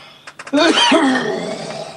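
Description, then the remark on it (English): A few quick breathy catches, then one loud, harsh, rasping cough that rings out and trails off slowly into a rough, strained exhale. “Let me see if I can do one solid cough to rule them all and get this messy business behind us.”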